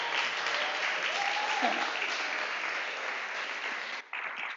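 Sustained applause from an audience, a dense continuous crackle of many hands clapping at steady loudness, with a brief dip near the end before it resumes.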